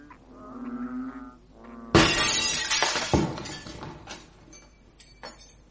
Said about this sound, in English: A stone, my lord, flew through the window-pane and tied thereon a note addressed to you.